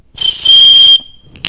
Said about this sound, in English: And when I'm not operating in the peace of God that passes all understanding, but I'm unsettled and disturbed, what is peace doing? Blowing the whistle. You know what the whistle is saying?